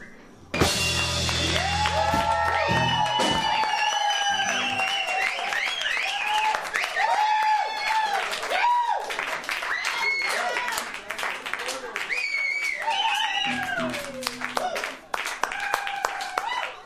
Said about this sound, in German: Und ganz am Schluss das Gekreische und Gejohle war eigentlich mal der Abschluss eines Konzerts oder eines Stückes bei einem Konzert